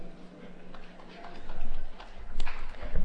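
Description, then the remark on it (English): A charm bracelet is shaken from the back row of a conference, producing a quick string of light clicking, ticking jingles that build in bursts over a faint room murmur. “So I'm going to just shake my charm bracelet from the back row.”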